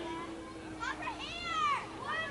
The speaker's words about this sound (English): I can hear the kids calling for them. They want the water balloons.